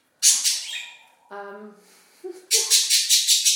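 A budgie in a bird room lets out loud, harsh squawking calls in rapid pulsing bursts, broken midway by a short tonal chirp before the raspy screeching resumes.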